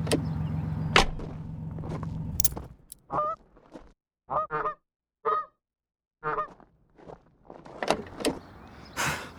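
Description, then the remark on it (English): Several geese at their nests honk in short bursts with pauses between, some calls loud, others overlapping, set against a low rumbling background at the start. “It's a bunch of goose nests.”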